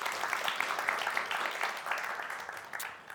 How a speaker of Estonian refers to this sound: Nii et aitäh teile emad veel kord. Aitäh, üks aplaus teile ka veel.